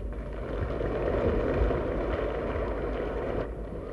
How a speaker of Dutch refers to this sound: Het applaus telt niet mee voor de prijzen, maar u hoort het wel, de zaal ondersteunt de vraag.